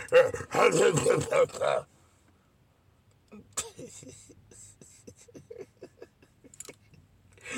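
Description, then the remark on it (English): Audience members bark like Q dogs in a loud burst of rapid, rough woofs for a couple of seconds. After a pause, a quieter, choppy run of short barks and yips follows. “They had y'all barking there.”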